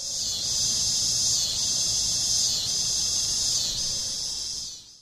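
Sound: cicadas singing in trees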